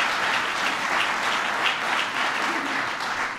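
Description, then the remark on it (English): Sustained applause from a large crowd for Vice President Joe Biden, a dense, steady wash of many hands clapping at once, loud and even throughout without a break. “So please give Joe Biden a big round of applause.”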